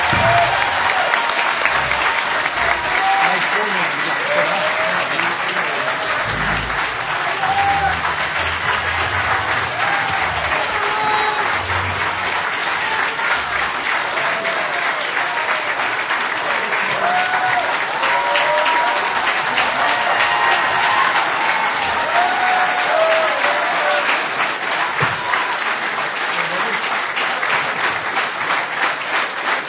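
Sustained audience applause for both U.S. Senate candidates, Russ Feingold and Ron Johnson, at the end of their debate: a dense, steady wash of many hands clapping that holds at an even, fairly loud level for about half a minute without pause.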